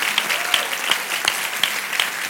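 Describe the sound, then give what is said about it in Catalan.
An audience at the closing ceremony of a film festival applauds the volunteers and the team steadily, a dense wash of many hands clapping with a few sharper claps standing out at regular moments, sustained and fairly loud throughout without any talking. “des de la direcció de la Fundació fins a l'últim voluntari, voluntaris, sisplau, un fort aplaudiment, i tot l'equip.”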